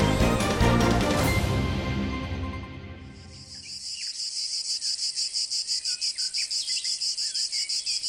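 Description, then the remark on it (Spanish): A short burst of music fades out, giving way to a loud chorus of cicadas, a bright continuous buzz that throbs in a steady rhythmic pulse until the end. “Ya está aquí, ya ha llegado a la región, y no me refiero al canto de las cigarras que nos acompaña durante todo el verano.”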